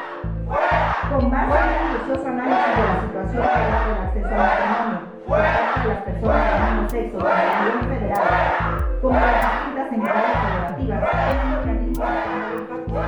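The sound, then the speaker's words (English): A loud crowd of opposition members boos and heckles a congresswoman, Miriam Cano, as she reads a bill in 2019, constantly interrupting her. Voices rise in steady rhythmic shouts roughly once a second, and the jeering is unbroken from start to finish. “When Miriam Cano read the bill, she got booed and heckled by the opposition.”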